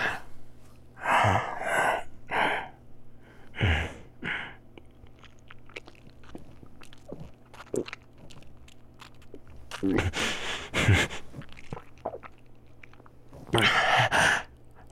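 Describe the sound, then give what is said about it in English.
Wet mouth sounds of a vampire biting a neck and gulping blood, three gulps, with a few heavy breathy gasps between scattered soft slurps and clicks, with no talking. “See, I only took 3 gulps this time.”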